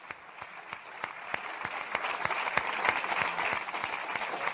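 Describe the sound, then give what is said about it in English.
A burst of applause from a soundboard effect, played by a producer in a studio to mark Coach of the Year news: dense, steady clapping with sharp individual claps standing out, holding at a fairly even level and swelling slightly toward the end, with no talking over it. “So he did give himself the sound effect, but fully deserved.”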